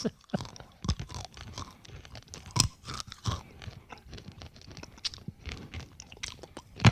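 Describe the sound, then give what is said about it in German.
Crunchy chewing of candied nuts, with irregular sharp crackles and bites in an uneven rhythm, one louder crunch standing out partway through, no talking. “So ein bisschen wie diese gebrannten Erdnüsse.”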